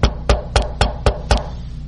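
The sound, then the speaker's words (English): Six firm knocks on wood in a steady, even rhythm, loud, a couple landing as quick doubles, with no voices around them. “Because I came knocking.”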